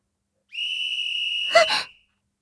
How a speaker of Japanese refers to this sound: この笛の音は、あなたは、風紀院様、もしかして、私ですか？走っていたことと、置きこなし、ですか？違反していたので、お笛を鳴らされたと。